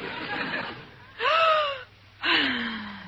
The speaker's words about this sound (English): What is that? Her breathing exercises, Maestro. In yogi, they say if you breathe deeply, all the poisons leave your system and you can think clearly.